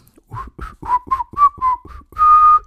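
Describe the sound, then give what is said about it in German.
Someone whistles a cheerful tune, a quick run of about eight distinct notes rising and falling before ending on a longer, louder held note. “Ihr seid vollkommen gesund und frühstückt jetzt mit euren Lieben oder alleine und nehmt ein schönes Buch dazu in die Hand und ja, pfeift fröhlich ein Lied, irgendein Lied dabei.”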